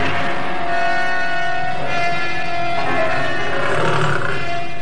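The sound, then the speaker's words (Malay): A loud, sustained roar of a large tiger rumbles and growls for several seconds in a palace courtyard, rich and throaty, with no speech over it. “Jangan biarkan harimau itu meninggalkan halaman ini.”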